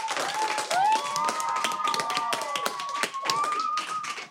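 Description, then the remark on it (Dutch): A group applauds the four experts of the day from the summer school, with dense, irregular clapping that holds steady for about four seconds, while a thin sustained tone, like a whistle or a cheering voice, rises and wavers over the claps. “Maar allereerst wil ik graag een heel groot applaus... voor de vier experts van vandaag van de zomerschool.”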